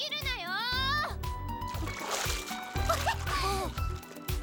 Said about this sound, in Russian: Юй, волны-то какие, волны! Волночки, Риттян!